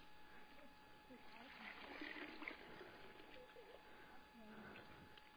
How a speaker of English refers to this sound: They got one more thing that I bet we can fit in there. Yeah? All right, let's see if we can get some water in there.